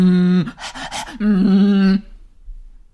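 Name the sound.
voice imitating heavy panting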